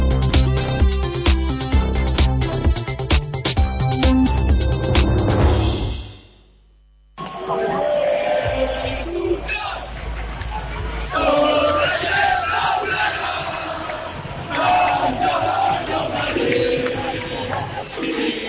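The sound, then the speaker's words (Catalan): A huge crowd roars and chants loudly at the Barça players' bus parade through the streets of Barcelona celebrating the league title, a dense wall of cheering that cuts out briefly, then returns with waves of shouted, sung chants. “És l'ambient que es viu des de l'autocar dels jugadors del Barça en aquesta rua en marxa ja des de les 6 de la tarda i que ha de recórrer els carrers de Barcelona per celebrar un campionat de Lliga aconseguit amb un 0-2 al camp de l'Espanyol.”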